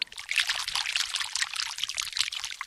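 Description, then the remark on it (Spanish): Water pours steadily into a large tub being filled for a bath, a continuous bright splashing rush that holds fairly even for a few seconds, moderately loud, with no voices. “Lo primero que hicieron los servidores fue prepararle una gran tina llena de agua.”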